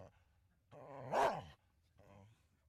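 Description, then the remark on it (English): A dog barks: one long, loud, drawn-out bark that rises and falls, followed moments later by a softer, shorter bark. “Now that Maddie, along with the McGees, are back from the Wistful Vista Dog Park, we should get back to our story”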